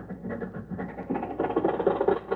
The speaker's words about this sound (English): Oh, boy, listen to that motor purr. I should have had my head examined for wanting to trade in little Maxie.